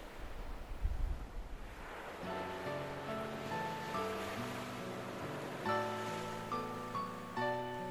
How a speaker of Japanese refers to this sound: 今の季節まだ雪には早いけど11月の日本海は少し荒れていて、だけどその音がなぜか心地よく感じられました。